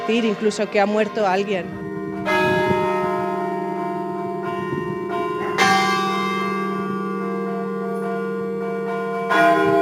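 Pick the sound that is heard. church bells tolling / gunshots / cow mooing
church bells tolling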